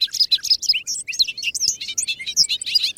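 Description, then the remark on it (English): A bobolink sings a rapid, bubbling jumble of metallic, tinkling notes that tumble continuously without pause, clear, with no voices present. “Also, hayfields are now being mowed earlier than they used to be, and the mowing coincides with the peak of bobolink nesting.”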